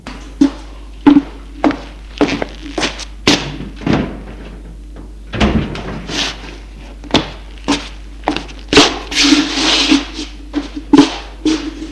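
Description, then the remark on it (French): Repeated short thuds and taps sound like footsteps, followed by the clunk and rattle of a man opening the door of his car as a patient leaves hospital, with a steady low hum underneath. “Bruno va ouvrir la portière de sa voiture.”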